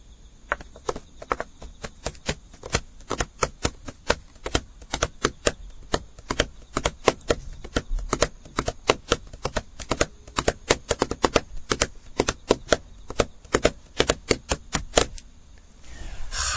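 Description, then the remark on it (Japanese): Professional drummer Mishima Rakko plays a fast, driving Japanese festival matsuri-bayashi rhythm on drums as music to cheer up Japan, sharp clicking strikes in dense repeating patterns with accented beats, heard alone without voices for the whole stretch. “今日の対談は、プロのドラムの奏者でいらっしゃいます三島ラッコさんをお招きいたしまして、日本を元気にする音楽ということで、独特のこの祭り囃子のリズムですね、まあ、この凄さをですね、皆さんに聞いていただきました。”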